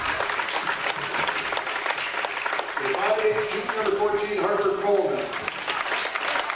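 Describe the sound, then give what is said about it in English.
A large crowd at a basketball game between the Cardinals and Lisbon applauds steadily as the Cardinals players are introduced, a dense, continuous patter of clapping, with a voice rising over it partway through before the applause carries on. “Cardinals and Tommy's being introduced to the crowd here.”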